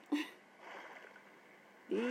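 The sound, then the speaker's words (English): A sharp splash of someone falling into deep ocean water, followed by a low churning wash of water and another bright splashy burst at the end, moderately loud. “Fell in the water.”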